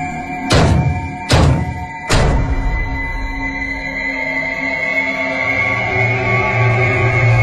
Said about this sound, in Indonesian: terdengar suara tembok sebelahku seperti ada yang memukul-mukul. Jelas sekali ini dari kamar sebelah.